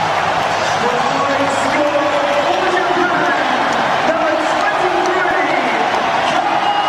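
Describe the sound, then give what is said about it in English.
A huge stadium crowd at the Rugby World Cup match between Japan and South Africa roars loudly and steadily throughout, a dense, unbroken wall of cheering with countless indistinct voices blended together. “Well, it's impossible to get a word in here amongst the roar of the crowd.”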